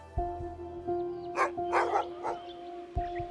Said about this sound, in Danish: Hundenes glammen lyder højt og insisterende. Så jægerne må stoppe andejagten, der ellers lige er gået i gang ved Rødenbjerg Sø i Thy. Hvad gør de hunde dog af?